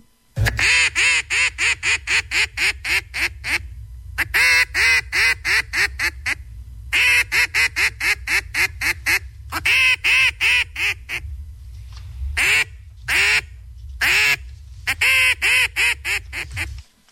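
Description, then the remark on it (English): A duck call blown by the first contestant in a duck-calling contest, a loud routine of rapid, raspy quacks, delivered in quick runs and short bursts separated by brief pauses, with no talking. “Here's contestant number one, duck calling routine.”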